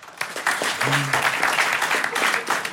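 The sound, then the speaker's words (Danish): An audience claps to vote on a rating for a film's strip scene, with dense, steady clapping that holds at an even, fairly loud level throughout, and a brief low voice or whistle-like tone rising faintly beneath it. “Okay, klap, hvis I synes, det er 9'er til bare hud og store muskler.”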